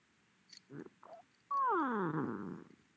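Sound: cat vocalizing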